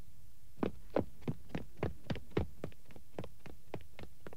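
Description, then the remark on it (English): Quick, evenly spaced footsteps of a man running, about three thumping strides per second, growing fainter as he moves off. No one speaks. “He's running.”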